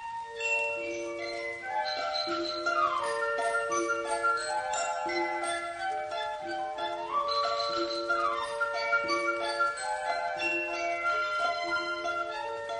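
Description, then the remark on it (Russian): A music box in a snuffbox plays a steady, tinkling melody of bright, bell-like plucked notes from a little bell, high and clear, ringing on at an even volume with no voices. “Вот он сидел, сидел над ней, смотрел, смотрел, думал, думал, отчего это звенит колокольчик?”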